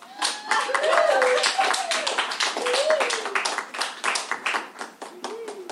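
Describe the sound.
An audience bursts into applause for a kazoo player about to audition for an orchestra, a dense, steady patter of many hands clapping for several seconds, with a few voices calling out and whooping over the claps.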